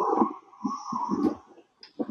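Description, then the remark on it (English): A squeaky chair creaks in a series of uneven, groaning strains, with a thin high squeal running through the lower rubbing pulses, fairly loud and with no talking. “That's my stupid chair.”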